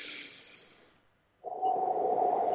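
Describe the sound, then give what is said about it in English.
A slow, deep cleansing breath taken as a breathing exercise: an airy, hissing inhale fades into a brief pause, then a fuller, steady breathy exhale with no talking. “Now, the first one is very slow, deep breathing.”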